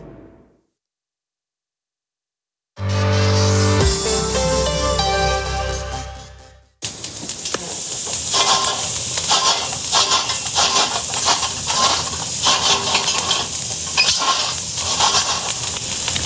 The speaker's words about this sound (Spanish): Un arco de ladrillo, brasas que crepitan, olor a leña y el sonido sordo de las castañas girando sobre el fuego.